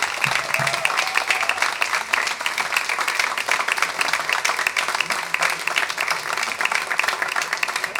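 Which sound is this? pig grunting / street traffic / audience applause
audience applause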